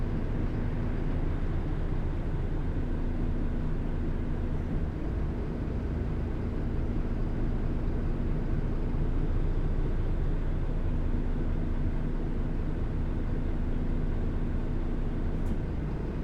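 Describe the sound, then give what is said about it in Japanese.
Steady, low engine drone fills the interior of a Keio city bus arriving at its final stop, Nakane Station, in Japan: a continuous rumble with a faint hum that holds at the same loudness throughout, with no voices. “終点中根駅に到着いたします。バスが止まるまで動かずにお待ちください。”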